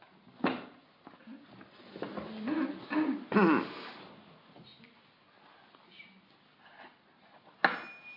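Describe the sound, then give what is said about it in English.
A person coughs and clears their throat several times in irregular, raspy bursts, with a cluster in the middle and a sharp cough at the end, separated by quiet pauses. “You got a cold?”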